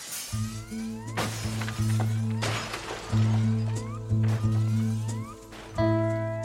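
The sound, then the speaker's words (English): Several loud crashes of breaking glass as jewel cases are smashed with a crowbar in an exhibit hallway, bursting out one after another at uneven intervals, each with a bright shattering spray, over steady ringing, alarm-like tones that keep sounding throughout. “And then he was running down the hallway away from me, smashing jewel cases and everything else he could reach.”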